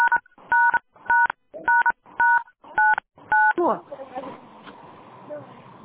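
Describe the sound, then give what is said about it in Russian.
Seven short keypad dialing tones beep in an even rhythm, each a clear two-pitch chirp, followed by a muffled burst of noise and faint voices on the line. “Вы там что-то называете, у меня пищится телефон. Вы там телефон, что ли? Что-то набираете, какие-то цифры?”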